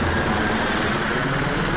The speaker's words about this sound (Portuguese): Aí, tá vendo o helicóptero.